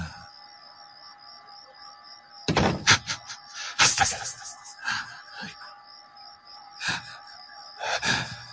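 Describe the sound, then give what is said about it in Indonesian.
A door is banged open and shut again and again, five or so loud, uneven thuds with rattling, over a steady faint hum, no voices present. “aku terdiam, karena sekarang yang ku dengar, pintu itu seperti dimainkan.”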